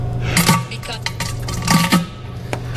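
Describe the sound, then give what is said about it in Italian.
Cutlery clinks and scrapes against a plate as someone eats, with bright metallic taps coming in small irregular clusters over a steady low hum. “Si sente che sta mangiando”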